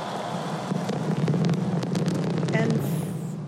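Repeated fireworks pop and boom in quick, irregular succession over a constant roar of a large crowd at the closing ceremony of the 2018 Winter Olympic Games in Korea, blending into the steady outdoor din.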